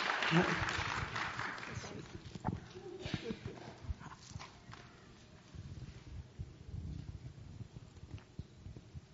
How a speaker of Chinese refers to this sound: 我们现在想请他来分享好不好？我们用最热烈的掌声来欢迎